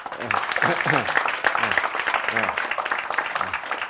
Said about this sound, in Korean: 예, 두 분 좀 일어서 주십시오. 예, 우리 박수로 환영하십시다.